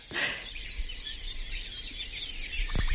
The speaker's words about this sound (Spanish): hemos escuchado el cuco macho, y no sé si el cuco hembra tenemos por ahí, o quizá seguro yo lo he escuchado y no me he enterado.